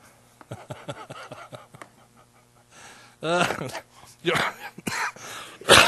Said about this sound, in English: I don't want to get tickled. I start coughing.